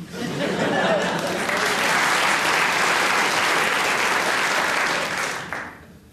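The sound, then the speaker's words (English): An audience bursts into sustained applause, a dense, steady wash of clapping that holds strongly for about five seconds before fading out. “They clapped that, and I don't know why.”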